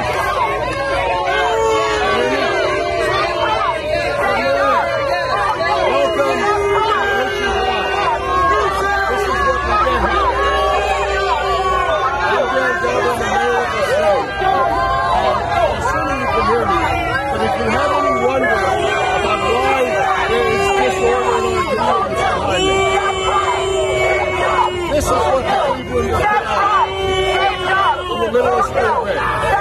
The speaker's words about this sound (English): It was a lot of people in a city known for apathy, a lot of people shouting. So you cannot, whatever they wanted to achieve in that press conference, you could not hear them because people were shouting them down.